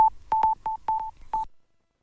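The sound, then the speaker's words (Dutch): A quick, uneven run of about six short telephone dialing beeps, each a steady mid-pitched tone with a faint click, followed by silence, dialing the police. No voices are heard. “twijfel niet en bel 101”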